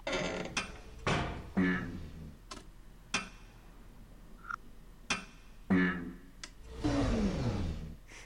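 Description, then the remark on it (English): Button sounds in a sound-matching puzzle game: a series of irregular mechanical bursts and clicks with whirring, sputtering tones of an engine trying to start, not yet running at full power, ending in a longer rough drone that winds down in pitch. “The buttons sound like when the engine is trying to start.”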